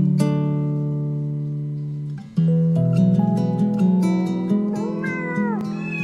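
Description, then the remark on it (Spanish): Drawn-out, wavering cat meows, several overlapping, ring out over steady musical tones, rising and bending in pitch toward the end, loud, likely voices imitating cats within a song about two cats on a table. “Dos gatos en la mesa están, dibiribirim bom bom.”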